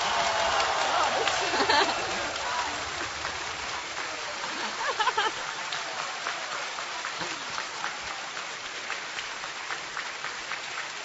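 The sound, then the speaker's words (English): An audience claps together to vote for which of two stories was best, in a dense, steady wash of applause that swells early, dips slightly, then keeps going with scattered sharper claps throughout. “Say by clapping.”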